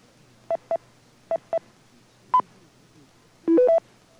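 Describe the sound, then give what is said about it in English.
Touch-tone commands sent to an 850 remote controller to turn on a battery charger: four short bursts in two quick pairs, then a single higher tone, followed by the controller's brief rising three-note beep reporting the output state. Clean electronic tones with no talking. “The controller responds with a high or low beep to tell you the output state.”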